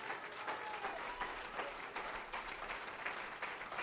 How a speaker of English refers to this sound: Let's stand together. Praise God. Yeah, why don't you do that? Why don't you clap your hands and bless his name?